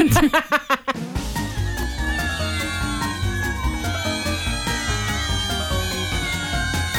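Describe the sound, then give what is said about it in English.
A short musical jingle built from a string of meows, opening with a quick run of bright, rhythmic cat-like cries before a full backing track kicks in and carries on steadily. “It's the perfect time for a cat story”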